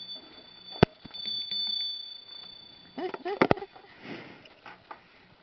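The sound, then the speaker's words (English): A hand bell is rung to get people's attention during a class, with a thin, sustained high tone punctuated by a few sharp strikes, amid soft rustling and brief murmured voice sounds. “Can you ring your bell”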